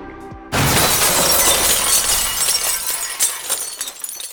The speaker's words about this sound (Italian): Un fragoroso rumore di vetri rotti spezza la magia della musica.